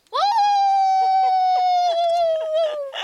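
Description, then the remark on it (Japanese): A person, outdoors in nature by a large cliff-like rock with other visitors around, imitates a wolf howl, meant to be somewhat restrained, with one long, steady, fairly loud wail of nearly three seconds that holds its pitch and slowly slides downward before trailing off. “ちょっと遠吠えしていいですか。”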